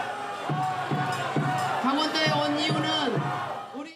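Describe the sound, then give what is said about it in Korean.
A large crowd at a People Power Party rally in Gangwon boos and jeers loudly and continuously as a party supreme council member takes the stage, rough voices swelling in rhythmic bursts with shouts rising above the din. “오늘도 무대에 오르자마자 야유의 대상이 됐습니다.”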